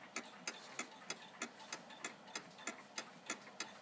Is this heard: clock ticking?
yes